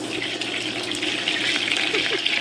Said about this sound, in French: Non, c'est le beurre qui crépite dans une poêle. Ah, oui, c'est un bruit que j'adore, une odeur aussi que j'adore.